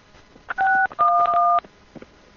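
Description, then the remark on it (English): Two telephone keypad tones sound clearly as a number is dialed, a short beep followed by a longer held one, each a steady dual-pitched electronic chirp over a quiet background. “It said that you took too long to hit the pound.”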